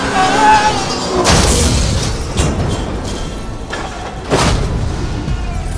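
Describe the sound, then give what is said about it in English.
A car crash and explosion as Goldfinger's car, its tires shot, spins out of control in the canyons: heavy booming impacts with shattering and smashing debris, two big bursts a few seconds apart over a constant loud, rumbling roar. “Hell of an explosion, W.”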